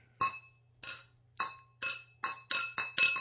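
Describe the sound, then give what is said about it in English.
A beer glass is struck about eight times in quick succession, the bright ringing clinks coming faster toward the end over a low steady hum, with no one talking. “Hey, don't break it. It's my glass.”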